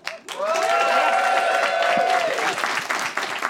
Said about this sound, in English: People only applauded that because I gestured. It was under duress.